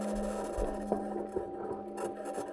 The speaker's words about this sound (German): Genau so klingt das Marsmobil der 2020 Mission Perseverance Rover, den die NASA auf den Mars geschickt hat, um dort entweder Spuren von unterirdischen Wasservorkommen zu entdecken